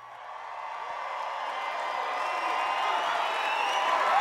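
A large audience applauds and cheers, a dense continuous wash of clapping and shouting voices that swells steadily louder over a few seconds, with no single voice standing out.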